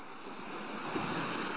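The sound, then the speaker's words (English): Steady rushing surf of ocean waves washing onto a shore, a broad continuous hiss that swells slightly, heard alone with no voices. “Listen to the sound of the waves.”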